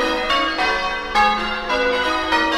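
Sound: bells ringing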